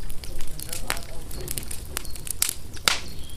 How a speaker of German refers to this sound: Wir haben uns zum Schluss noch ein bisschen ans Feuer gesetzt, wo natürlich niemals über den Chef gelästert wird.